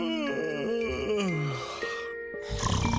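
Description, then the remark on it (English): A loud snore: a long, groaning inhale that slides downward in pitch, followed by a short pause and then a rough, noisy burst of breath. “Do you snore loudly or stop breathing during the night?”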